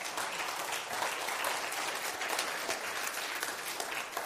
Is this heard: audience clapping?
yes